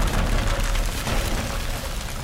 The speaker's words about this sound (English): The hunter blows a single note on his horn of blasting. The resulting shockwave hurls Assad back into the hallway, crashing into the far wall.